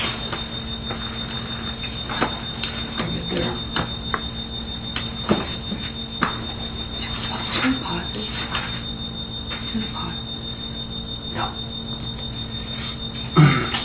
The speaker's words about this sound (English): Okay, I'm not worried about the beeping.